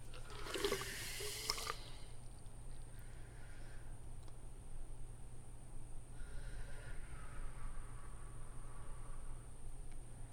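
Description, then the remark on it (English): Bathwater drains with a short, loud gurgling rush near the start, then settles into a low, steady rumble with faint, soft gurgles underneath. No one speaks. “And then as we barely pulled apart our wet bodies from each other, we stop as we hear the water start to drain.”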